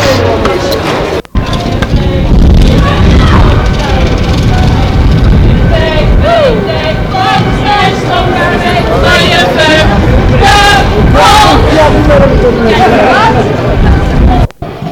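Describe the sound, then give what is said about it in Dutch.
A lively festive outdoor street crowd on the Belmerplein, by the shops of the Amsterdamse Poort, fills the air with overlapping chatter and voices, a steady, loud hubbub of many people talking at once, with occasional raised voices rising above the babble. “Nou, een hele gezellige sfeer dus, je kunt het horen.”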